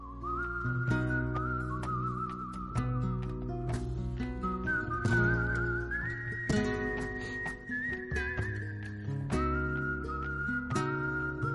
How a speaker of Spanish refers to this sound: En lugar de un piano, una guitarra, un silbido.